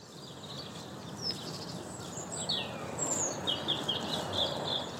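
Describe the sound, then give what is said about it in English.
Several birds sing and chirp at once in a park near East Croydon, in quick, overlapping high-pitched phrases, over a steady low rumble of outdoor background noise. “I've got lots of bird song.”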